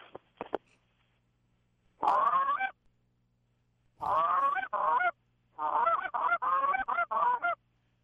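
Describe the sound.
Loud, high-pitched goose hail calls blown on a goose call to get geese to turn toward the caller: a drawn-out honk, a pair of longer calls, then a rapid run of several honks, with no talking.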